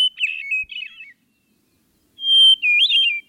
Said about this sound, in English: I'll put you out of your misery. It's actually the hermit thrush. Right. The giveaway is the first strong note of the song.